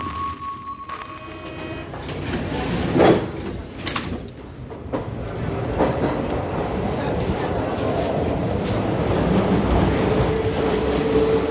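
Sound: paris metro train running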